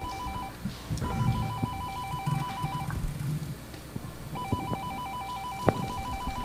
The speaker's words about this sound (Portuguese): Tá tocando a campainha? Tá tocando, eu não ouvi. Você não ouviu? Ah, tava meio baixa a campainha de casa.